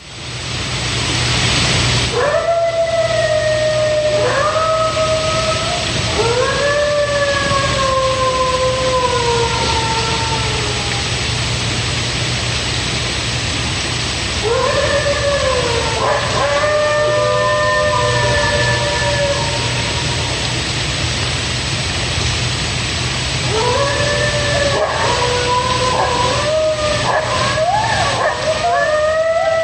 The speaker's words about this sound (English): But here's coyotes. Here's what a coyote right before the pack goes off.